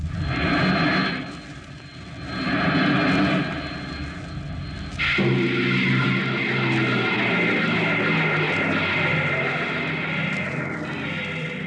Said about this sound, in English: The last blast of the bow jets broke red against the blue desert sands, and the ship slid to a halt at the edge of a vast city that reflected the icy glare of the moonlight.